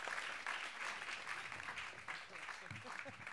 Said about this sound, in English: Thanks for coming tonight. I'm going to clap for everybody.